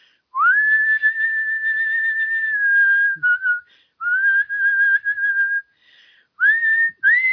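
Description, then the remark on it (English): A person whistles the high part of a carol melody, holding long pure notes with a few short pauses and rising slides between phrases; no one speaks. “Let's see if I can even whistle that high.”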